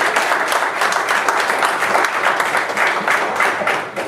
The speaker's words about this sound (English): What are you clapping for? Give the Lord a hand of applause then. How's that?